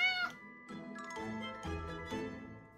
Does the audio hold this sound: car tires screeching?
no